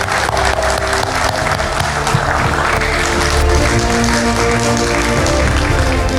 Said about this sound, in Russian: Дорогие друзья, давайте поприветствуем всех нас аплодисментами.